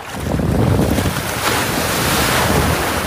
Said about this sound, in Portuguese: Outra dica pra sair do mar: tu espera a onda te empurrar. E aí que ela te empurrar, tu dá o impulso pra sair.